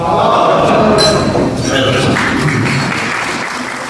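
Glasses clink in a toast at a Marugoto Yokkaichi regional brand gathering in a hotel in Yokkaichi, Japan, bright chimes rising over clapping and a loud murmur of many voices that carries on throughout.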